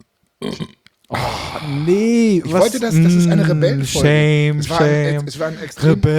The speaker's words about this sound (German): Ich bin Rebell und muss mir jetzt hier trinken und rülpsen. Das erste Mal, dass ich öffentlich gerülpst habe.